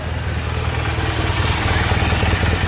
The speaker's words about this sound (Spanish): De pronto, llegó uno en una moto grande.